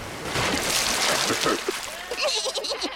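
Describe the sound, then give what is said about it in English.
A big, noisy splash as llamas cannonball into a pool, making a huge wave, followed by continuous sloshing and churning, with voices chattering over the watery noise toward the end. “The llamas cannonball into the pool, making a huge wave.”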